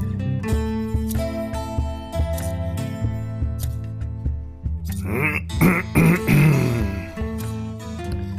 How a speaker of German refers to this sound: Räuspere ich mich.